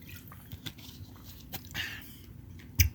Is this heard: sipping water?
yes